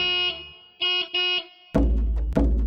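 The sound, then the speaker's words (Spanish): A car or motorbike horn honks several times: one long blast, two quick short toots, then a louder, harsher burst of honking with engine rumble underneath. No one speaks. “Mac, mac, mec, mec. Es un coche o una moto esta vez.”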